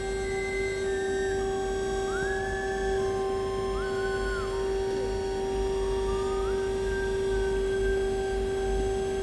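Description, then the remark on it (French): A siren-like alarm across the street wails steadily at 5:30 in the morning in mist, its tones holding and then sliding between pitches over a low background rumble, with no voices. “Ça y est, ça recommence. Il est 5h30 du matin. Une alarme en face.”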